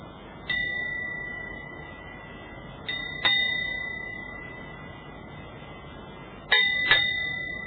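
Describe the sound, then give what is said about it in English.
A small meditation bell is struck as softly as possible about five times to end a meditation, single then paired strikes, each bright ring lingering and fading gently over a quiet room hum. “I'm now going to ring this little bell as softly as I can.”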